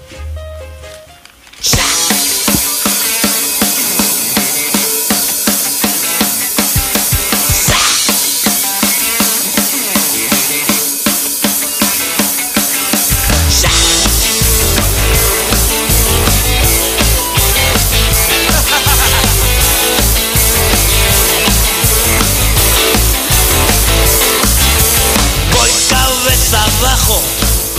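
A band's song starts after a brief quiet moment and plays loud and full, with a steady driving beat; deeper bass and drums swell in about halfway through, thickening the sound.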